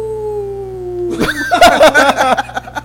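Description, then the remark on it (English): A voice imitates a wolf howl with one long, steady, slowly falling note, then breaks into a loud, messy burst of yelps and rough howling noises. “It's like, we imagined they were like howling because they were wet.”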